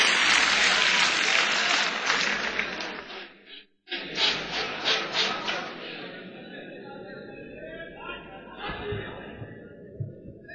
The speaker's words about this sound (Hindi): तालियां बजाइए, धमचक का स्वागत कीजिए।